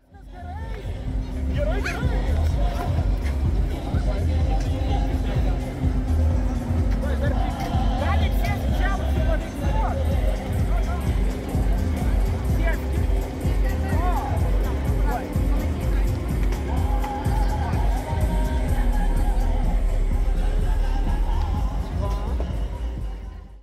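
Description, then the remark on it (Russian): Steady, loud crowd ambience at an outdoor car event: overlapping chatter and murmuring from many people, with faint engine and vehicle sounds mixed into the constant din. “Автомобильный фестиваль – это ведь мероприятие для взрослых.”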